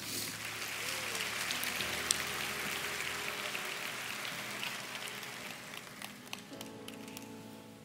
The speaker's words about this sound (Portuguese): Vamos dar palmas para eles aqui.